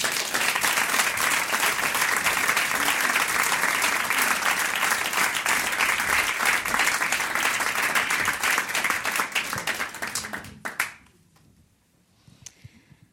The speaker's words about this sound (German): Mit einem riesengroßen, fleischigen Applaus für Rebecca Lindauer.